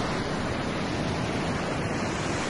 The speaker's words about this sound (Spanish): Las olas han entrado con fuerza en la avenida marítima y la carretera permanece hasta ahora cerrada.